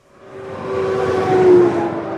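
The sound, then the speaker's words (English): Big rig trucks hauling oil, gas, water and sand barrel down a highway in the oil field town of Orla, Texas, in the Permian Basin oil patch, a loud roar swelling within the first second and holding steady, with a sustained low, horn-like drone riding over the rumble. No one speaks. “Big rigs barreling up and down the highway, hauling everything from oil and gas to water and sand.”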